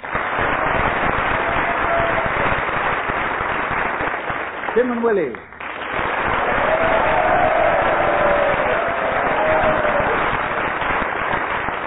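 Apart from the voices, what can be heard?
audience applause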